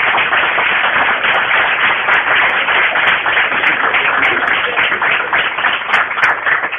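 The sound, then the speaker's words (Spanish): Steady applause from a crowd for the speaker's helpers: dense, crackling clapping that holds at an even, fairly loud level for several seconds, with no voices on top. “Pues yo creo que los ayudantes que me he buscado se merecen un fuerte aplauso.”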